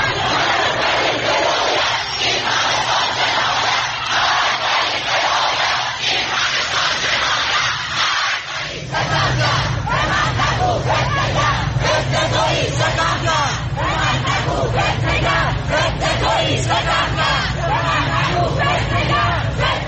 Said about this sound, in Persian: معترضان به شلیک موشک پدافند هوایی سپاه به هواپیمای مسافری خطوط هوایی اوکراین عصر روز شنبه در چند شهر از جمله تهران، اصفهان، همدان، رشت و ساری تجمع کرده و اقدام به سر دادن شعار کردند.